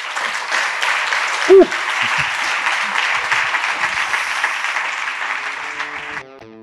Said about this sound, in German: Danke und das ist dein Applaus.